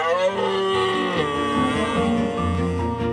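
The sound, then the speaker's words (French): A red deer stag bellows in rut in the woods: a deep, loud, drawn-out roar rich in harmonics, its pitch wavering and dipping as it carries on for about three seconds without pause. “Donc, vive les amours rugissantes du cerf au grand bois et ce drôle de Brame.”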